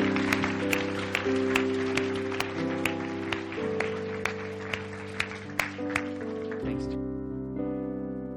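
An audience at a church service claps for the Lord, clapping steadily for several seconds over sustained organ-like chords, with a few sharper claps standing out; the clapping fades near the end while the chords continue.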